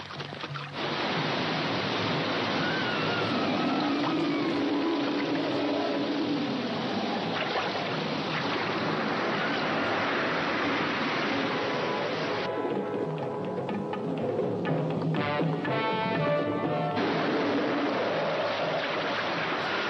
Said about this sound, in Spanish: El mar está demasiado picado. Apuesto a que se debe a la magia de Pluma Perlada.